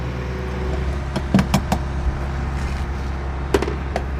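A car being refueled at a gas station: a steady low engine-like hum with a handful of sharp metallic clicks and clunks scattered through, with no one talking.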